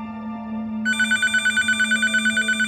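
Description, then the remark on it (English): A telephone rings steadily in a kitchen in Southern California, its bright electronic trill pulsing in rapid even bursts over a low steady hum, with no talking; it is a call from cycling legend Greg LeMond to cyclist Floyd Landis. “Landis anxiously grabs the receiver and answers.”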